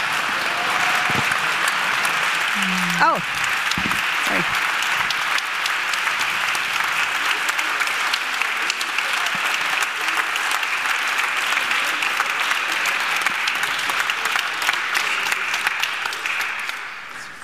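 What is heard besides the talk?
audience applause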